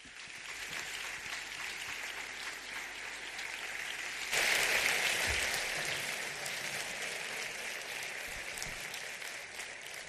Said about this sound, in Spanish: hace 17 horas que sonó su despertador y por tanto les ruego que le reciban con el aplauso cariñoso que merece Carlos Herrera.